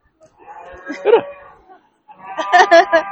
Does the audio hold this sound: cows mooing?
yes